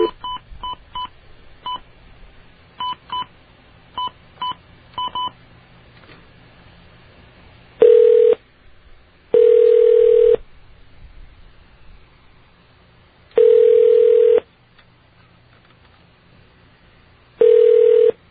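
On a radio show, a quick run of about a dozen short touch-tone beeps dials a call to the White House, followed by four loud, steady tones in separated bursts, like a phone line ringing. No one speaks.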